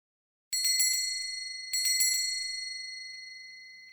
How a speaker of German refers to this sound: Plato geht nur mit seinem mit den Glöckchen aus dem Haus. Wenn er dann auf der Straße läuft, klingelt es schön. Das mag er.